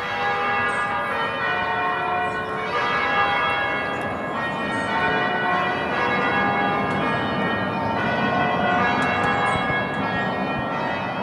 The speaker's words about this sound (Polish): Ja uwielbiałam dźwięk tych dzwonów co rano. Nawet sobie nagrałam taki dźwięk.